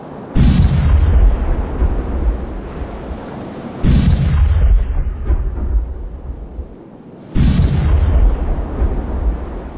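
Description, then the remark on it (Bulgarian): Three loud cannon booms fire at steady intervals as a salute to a king's toast, each one rolling out into a long, thunderous rumble that fades before the next blast. No voices are heard. “Тъй, че гръм небесен и земен гръм с общатен да приветстват на здравицата ни.”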